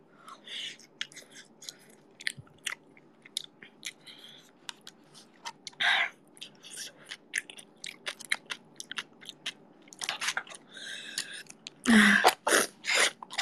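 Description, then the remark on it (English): Several short, breathy sniffles from a runny nose, the loudest in quick succession near the end, amid scattered small crackly clicks and crunching noises. No one speaks. “You can hear my runny nose, I think.”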